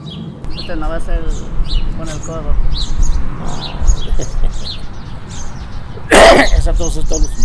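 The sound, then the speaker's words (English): A man, a retired maintenance worker in Juarez, gives one sharp, loud cough without covering it, unmuffled and explosive, near the end, with bits of talking earlier and birds chirping steadily in the background. “He did not cover the cough either.”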